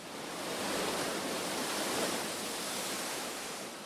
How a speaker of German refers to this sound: Atlantikwellen rauschen an die Vulkanfelsen im Nordwesten der kanarischen Insel Teneriffa.